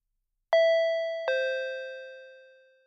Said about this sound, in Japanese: 時間通りにインターホンが鳴る。